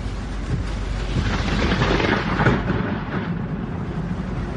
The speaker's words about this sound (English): Holy crap. Ida still packing a punch, unleashing this tornado near Annapolis, Maryland. We moved away from the windows because all kinds of debris was crashing into the window.